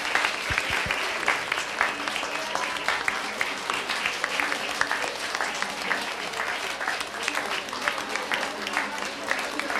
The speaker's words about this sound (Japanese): 拍手お願いします。